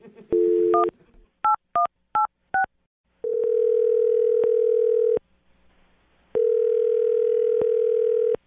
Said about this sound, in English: I'm going to dial the phone number right now, and you can make your Awkward Tuesday phone call.